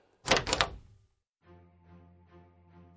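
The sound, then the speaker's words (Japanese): The door of room 202 in an old Showa-era apartment is opened with two quick clattering clunks of the latch, then falls quiet before a soft, steady low hum fades in. “202号室のドアを開いた。”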